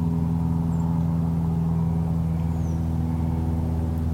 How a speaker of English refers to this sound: After the drone of the airplane engine fades away, the American Robin's evening song begins to be heard.